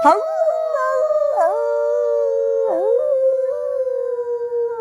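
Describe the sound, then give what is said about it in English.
A person imitates a wolf howl: one long, sustained, fairly loud wail whose pitch dips and swoops a few times before trailing off steadily, with no other talking. “Go and search for your inner wolf.”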